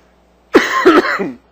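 A fairly loud cough, a sharp burst followed by a second harsher hack and a rasping tail, heard alone with no talking.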